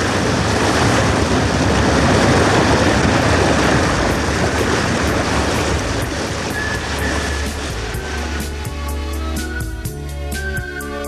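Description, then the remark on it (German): A motorboat cruises along a coast through choppy water, a loud steady rush of waves and spray with a low engine drone that grows clearer and more tonal toward the end. No voices. “lenkte das Motorboot an der Küste entlang, bis der Sendemast und der Schornstein genau hintereinander waren.”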